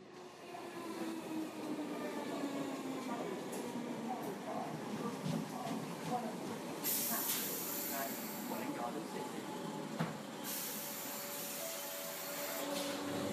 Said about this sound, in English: I'm whizzing down on a train to London for work.